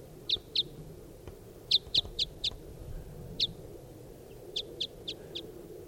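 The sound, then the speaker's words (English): A type 5 bird right above the camp repeats short, high chirps in small clusters of two to four notes, clear over a low, steady background rumble, with no voices. “Recording, here's a type 5 bird right above the camp.”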